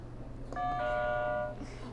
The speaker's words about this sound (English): All right, go ahead and hit a buzzer. We're done with that game.